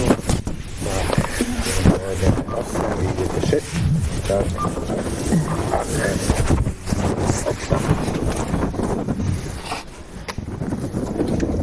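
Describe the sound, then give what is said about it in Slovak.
Steady, loud wind rushes and buffets, with heavy low-pitched rumble throughout; faint voices seem to murmur underneath at moments. “Fúka, že?”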